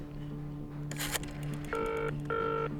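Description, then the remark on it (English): A telephone at the National Gallery is dialed with a brief burst and quick clicks to call the Guardian newspaper, then two short bursts of ringing tone sound through the line over a low steady hum; no one speaks. “Get me the Guardian on the phone, will you?”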